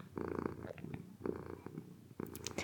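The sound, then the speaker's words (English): A female cat purrs in steady rumbling cycles, three rising-and-falling breaths of low vibration with no voices over it. “Hopefully her purring is soothing.”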